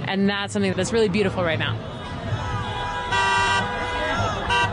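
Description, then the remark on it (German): Car horns honk from passing cars in approval of a demonstration against Donald Trump and Elon Musk in Kansas City, Missouri, with a long sustained blast near the end, over a steady bed of street noise and cheering, chattering voices from the crowd of demonstrators. “Vorbeifahrende Autos hupen als Zeichen der Zustimmung.”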